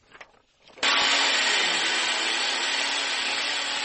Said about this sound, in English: People in Puerto Rico are drilling plywood over windows in preparation for Tropical Storm Dorian.